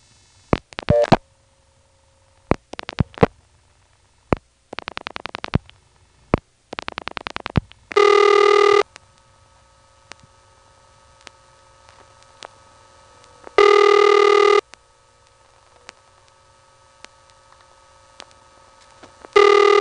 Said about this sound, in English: here's an intra-office call to a line that's pretty hummy. Interestingly, you can actually hear the phone line in between rings, and this particular independent ring tone is more often heard in offices that don't let you hear the phone line.